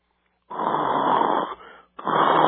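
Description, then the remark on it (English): Loud, raspy snoring: a long rough inhale that trails into a softer breath, a brief pause, then another harsh snore starts. It sounds like a person acting out snoring, with no talking. “Oh, I'm sorry. I almost fell asleep there.”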